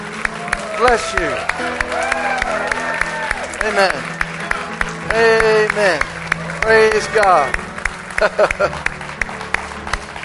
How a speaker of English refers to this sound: Give him a hand as he comes this morning. Bless you, young man. Come on, church.